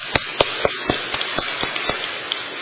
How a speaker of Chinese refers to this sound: 还有没有？如果没有，我们掌声欢迎。